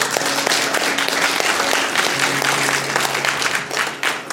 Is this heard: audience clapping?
yes